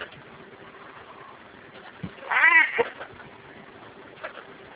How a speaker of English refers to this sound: Kitty.